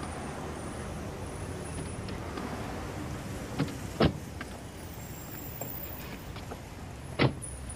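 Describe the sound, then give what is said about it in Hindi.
Steady low rumble of a car as people get in and its doors open and shut, with a few sharp clunks and thuds spaced out over several seconds; no one speaks. “ठीक है, चलो गाड़ी में बैठो।”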